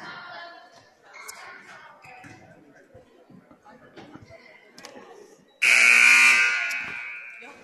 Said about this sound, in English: And there's the buzzer, and we'll get started.